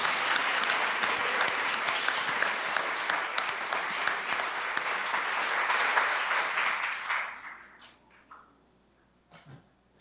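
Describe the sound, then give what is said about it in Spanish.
A crowd claps steadily in a dense, sustained wave of applause for about seven seconds, given for unborn children and their mothers and fathers, then it thins out and fades to a few scattered claps and near silence. “Y para los niños y las madres y padres de los niños que están por nacer, otro aplauso.”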